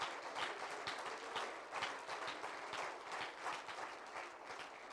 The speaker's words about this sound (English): Somebody clap your hands unto the Lord today.